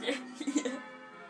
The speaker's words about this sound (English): They're quite nice sounding bells, actually, when they're not messing it up. Which is rare.